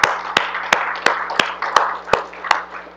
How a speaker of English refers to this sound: Give a little clap offering.